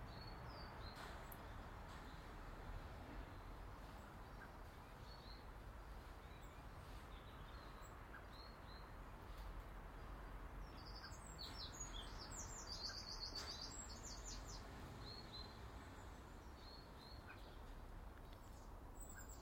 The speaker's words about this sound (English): I can hear Mr. Blackbird chopping in the background.